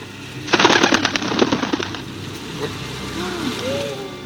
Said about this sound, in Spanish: Aumenta el ruido. Ruido de alas cortando el viento. Quietos, escuchando. Narices rojas por el frío. De repente, a la luz de nuestros mecheros aparece una lechuza.